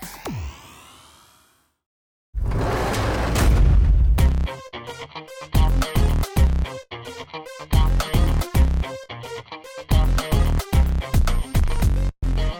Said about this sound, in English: That slamming jail door is you behind it. If, according to Evan, you even walked through the state of New Jersey with a gun.